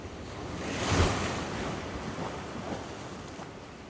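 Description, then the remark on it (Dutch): Sea waves surge and wash steadily with no one speaking, one swell cresting louder early on before settling into a continuous broad rush, with some wind noise mixed in. “Of jij doet iets met de zee, of die zee doet iets met jou.”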